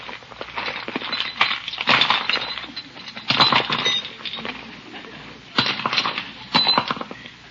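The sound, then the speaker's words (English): Small objects, among them lipstick, a compact, house keys, a pillbox, a fountain pen and a flashlight, clatter and clink as they're tipped from one purse into another, coming in several rattling bursts with brief pauses between them. No one speaks. “Well, I just have to take time to change my purse.”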